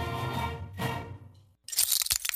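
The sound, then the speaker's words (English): A sustained ringing tone fades to a brief silence, then glass suddenly shatters loudly, followed by a scatter of bright, tinkling shards. “Uh-oh, sounds like you need some new glass.”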